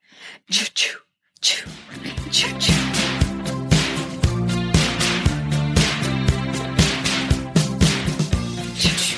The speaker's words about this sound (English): It made such an impact on me, the choo-choos. The slap. Those are the slaps, people. Slap.